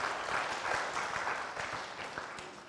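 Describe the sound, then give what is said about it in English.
A crowd claps steadily for educators, a dense patter of many hands at a moderate level, with no voices standing out. “Let's give a round of applause to all of our educators that have done so much for our kids.”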